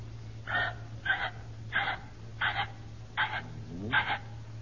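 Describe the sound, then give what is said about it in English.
A person imitates a ringneck pheasant call, producing six short, raspy bursts at a steady, even rhythm, moderately loud over a constant low hum. “How does a ringneck pheasant sound?”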